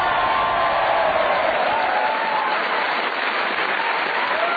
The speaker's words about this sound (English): A magnificent score. Never had so many points scored in a show before. 23 points. Paul Merton, a round of applause.